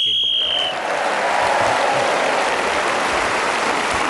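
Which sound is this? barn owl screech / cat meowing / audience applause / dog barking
audience applause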